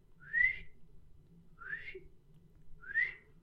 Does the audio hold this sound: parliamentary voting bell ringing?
no